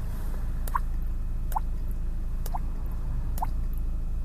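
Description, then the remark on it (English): Four hollow, pitched plops made by flicking a cheek to imitate a water drop in cold morning air, evenly spaced about a second apart, clear over a steady low rumble. “I've been practicing the thing where you flick your cheek and make it sound like a water drop.”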